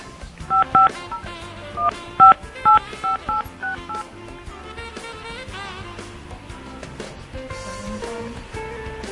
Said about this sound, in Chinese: 打到柬埔寨。嗯，电话不通，再试一次吧。